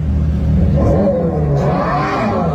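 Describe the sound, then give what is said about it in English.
A loud, continuous engine-like roar from a Charger EV concept electric muscle car's fake exhaust sound, played through speakers in the car, rising and falling in pitch as if revving, with a deep rumbling low end and no talking. “It's a Charger EV. Sick. It has a fake exhaust sound.”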